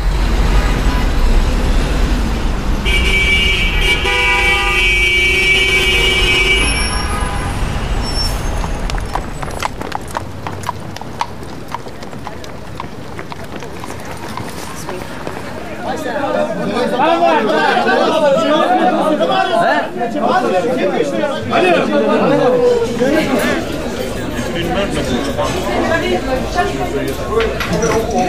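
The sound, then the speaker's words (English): Busy New York City street ambience with steady traffic rumble, a sustained horn-like tone early on, and horse hooves clip-clopping along as crowd chatter and voices murmur throughout. “And 5 CDs that place you in the heart of the Big Apple, New York City. Here's a sample.”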